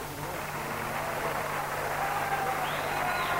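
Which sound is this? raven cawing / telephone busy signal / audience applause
audience applause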